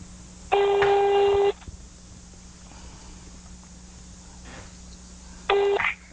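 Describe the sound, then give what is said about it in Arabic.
A telephone ringback tone through a phone line while calling a landline number in Rafah: a one-second electronic ring, a long pause filled with faint line hum, then the ring starting again. No one speaks. “أي هذا قاعد يرن، بس ما أدري عاد الصوت واضح عند المشاهدين ولا لا.”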